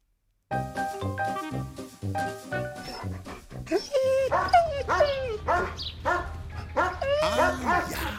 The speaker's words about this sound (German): Jetzt hört ihr wieder viele Hundestimmen und holt euch mal Ideen